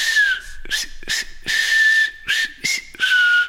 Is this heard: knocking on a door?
no